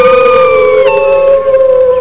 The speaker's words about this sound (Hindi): हुआ यूं कि एक दिन उसने बहुत से भेड़ियों की आवाज सुनी।